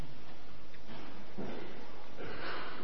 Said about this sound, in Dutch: Neem ik nog even een slokje water.